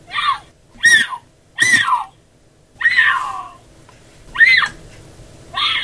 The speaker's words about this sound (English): A female mountain lion's call, in fact, has often been described as sounding like a woman's scream. Here is a call that was caught by a trail cam.